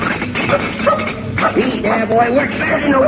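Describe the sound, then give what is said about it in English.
A dog barks and yips excitedly in quick, repeated bursts, fairly loud, with whining yelps mixed in across the whole stretch. “You go upstairs and get that dog off your bed.”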